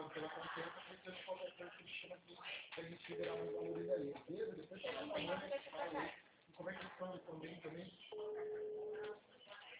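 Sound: phone call ringing tone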